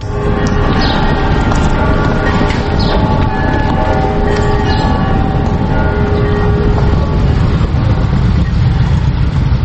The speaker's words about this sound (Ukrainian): Провулками Лаври мчать півсотні потужних мотоциклів. Над колоною майорять церковні хоругви, українські та російські державні прапори. Позаду гуркоче вантажівка з гранітним кам'яним пам'ятним знаком, який буде встановлено на полі Полтавської битви.